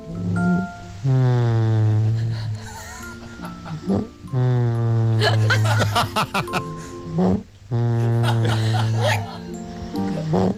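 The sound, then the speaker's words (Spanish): A man snores in a recorded voice note from Barcelona, in three long, loud, drawn-out bursts, each a voiced, wavering rasp with a braying, donkey-like tone, separated by short breaths. “Aquí os mando una notita que normalmente ronca más fuerte, así en plan hipopótamo, pero este día roncaba así como un burrito.”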